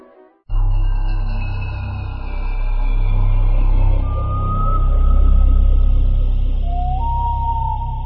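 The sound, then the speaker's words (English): The Playing in the Dark logo sound bursts in abruptly as the game Top Speed 2 starts: a loud, deep rumbling drone with a thin high tone sliding downward, joined later by brief gliding whistle-like notes, with no talking. “Okay, so that noise you just heard there was the Playing in the Dark logo.”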